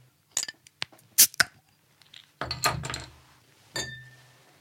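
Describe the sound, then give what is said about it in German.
Glasses clink together in a toast, a handful of sharp taps at an uneven pace, the last one leaving a brief bright ring, with soft handling rustle between them and no talking. “Ja, darauf, denke ich, sollten wir jetzt mal in aller Ruhe anstoßen.”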